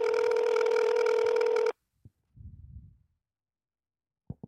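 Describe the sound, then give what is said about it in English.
A phone ringback tone sounds through a speakerphone, a steady electronic ring lasting under two seconds and then cutting off, followed by a few soft clicks and faint rustling. “So this time he's not with us, so he's going to be with us over the speakerphone. Right. Let's see if he answers.”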